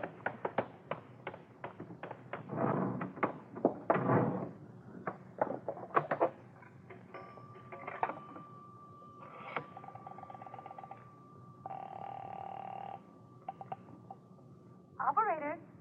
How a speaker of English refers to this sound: I'm going to make a telephone call. That phone booth in the filling station.